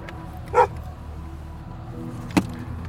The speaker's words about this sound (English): I think he's gonna turn around if he sees his dog barking.